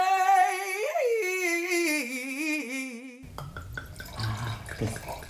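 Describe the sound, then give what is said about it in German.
Schilcher wine pours into a glass, first as a steady ringing, wavering tone for about three seconds, then breaking into uneven glugs and splashy trickles until it stops. “Den Sound darf man eigentlich nicht unterbrechen mit Quatschen.”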